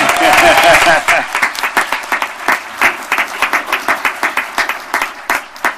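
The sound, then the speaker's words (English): An audience claps, dense at first and then thinning to a scattered run of sharp, steady claps. The applause is loud and stands alone, with no voices over it. “I thought there was no clapping.”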